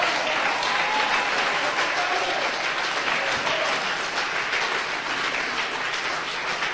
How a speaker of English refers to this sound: Why don't you clap your hands and say amen? Dann klatsch meine Hände und sag amen.